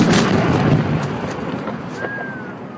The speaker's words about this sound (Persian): بعد از بیرون کردن گروه دولت اسلامی از شمال عراق، جنگجویان پیشمرگه کردی در آن کشور افراد این گروه تندرو را که در حال عقب نشینی بودند همچنان زیر آتش سلاح ثقیل قرار دادند.